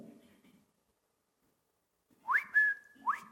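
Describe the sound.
A person whistles like a shepherd calling sheep: two sharp rising whistles, the first held as a steady high note, then a second quick upward call, loud against a brief murmur of talk beforehand.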